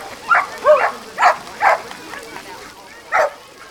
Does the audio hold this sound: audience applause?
no